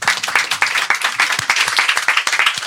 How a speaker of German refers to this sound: ja super, guck mal, ein Applaus für meinen Ehemann.